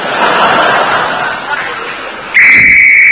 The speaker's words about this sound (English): That's a danger whistle. It means the men in the tunnel are going to start blasting.